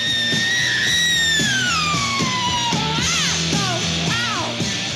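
A punk singer lets out a long, piercing scream that slowly slides downward in pitch, followed by shorter rising-and-falling yelps, all over a pounding drum and bass backing.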